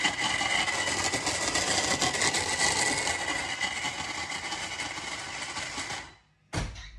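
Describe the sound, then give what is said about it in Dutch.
A blender whirs loudly and steadily for about six seconds with a gritty, crunching edge as bulbs are crushed, then cuts out and gives a short final burst. “We doen het met de blender van mijn lieve vriendin.”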